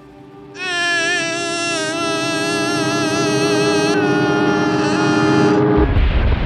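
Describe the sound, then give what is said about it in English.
A voice imitates the sound of an aircraft, returning from a rescue operation, crashing on its approach: a loud, sustained buzzing drone with a slight waver for about five seconds, then it cuts off into a brief burst of rough, noisy crash sound. “I said, "Damn, it sounds like a plane crashed."”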